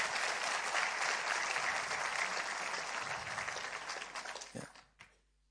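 An audience applauds steadily for several seconds for a person after her first baptism, a dense wash of many hands clapping that thins and fades out, ending with a few last claps.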